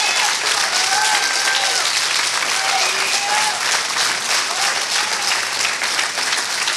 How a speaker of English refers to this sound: Come on, and give God a hand clap of praise in this place today. Give God a hand clap of praise, your Creator a hand clap of praise.